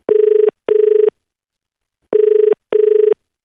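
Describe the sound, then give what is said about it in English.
A phone ringback tone purrs in two double bursts, each pair of short rings separated by a pause, clear and steady with no voices. “let's call Charlotte Wood now”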